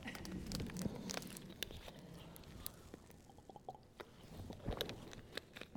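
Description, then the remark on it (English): Someone sips water, with quiet wet slurps, small mouth clicks and a soft swallow over several seconds, and no talking. “I'm going to take a quick sip of water.”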